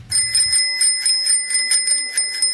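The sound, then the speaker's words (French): A bicycle bell rings rapidly and repeatedly, around ten bright metallic dings in a quick, steady rhythm, loud and clear with no talking, after a brief low rumble at the start, as a woman cycles to the fields with a baby on her back along a road through the Mandingar quarter of Bangassou. “Coup de klaxon, céder le passage,”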